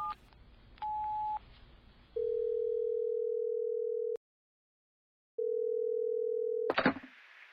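A few short keypad beeps as a telephone call is placed, then a loud, steady telephone tone that holds for about two seconds, goes silent, returns, and ends in a clattering pickup. No one speaks.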